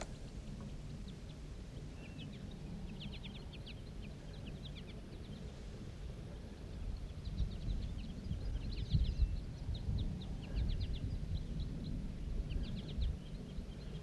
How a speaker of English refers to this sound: The flock took off. There's still one bird sitting up in the tree.